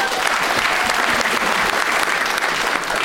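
A steady round of applause from a group, dense overlapping claps filling the whole few seconds at an even, fairly loud level with no talking over it.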